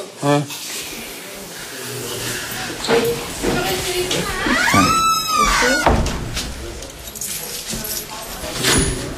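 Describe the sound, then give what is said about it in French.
Keys jangle and clink as a locked door is unlocked, with scattered metallic clatter and a brief squeaky whine midway, over a busy background murmur. “Les portes sont fermées à clé.”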